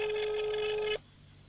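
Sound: phone ringing unanswered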